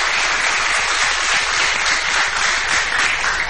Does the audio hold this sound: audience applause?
yes